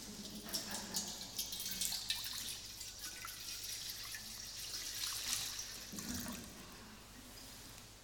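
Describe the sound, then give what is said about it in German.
Water is poured into a baptismal font for a baptism in a steady, splashing trickle with small drips, moderately quiet, continuing for several seconds with no voices. “Guck, da ist Wasser. Guck, so. Das machen wir jetzt da rein, okay?”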